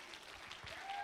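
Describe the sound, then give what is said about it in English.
An audience clapping their hands to the Lord together, a dense, steady wash of many claps at a moderate level, with faint voices and a thin tone underneath. “Come on, let's clap our hands to the Lord together.”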